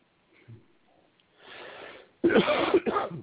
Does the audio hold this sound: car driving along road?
no